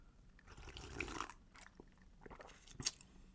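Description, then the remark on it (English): Quiet slurping as the first sips are taken of a pale yellow drink topped with a lemon slice, with soft wet mouth noises and a short sharp click near the end. No one speaks. “So here we go. First sips.”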